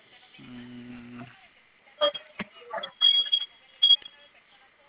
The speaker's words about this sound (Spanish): Ok, se oye nada más como ese sonidito, como un leve pitido. Ajá, pero es muy fuerte. No es leve, es muy fuerte.